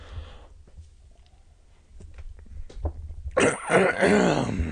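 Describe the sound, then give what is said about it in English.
A man's loud, rough throat-clearing rasps as he comes into a hall, preceded by a few faint taps and rustles in otherwise quiet surroundings. “She held her breath as her father came into the hall, clearing his throat loudly.”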